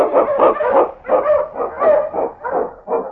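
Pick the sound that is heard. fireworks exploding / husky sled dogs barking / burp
husky sled dogs barking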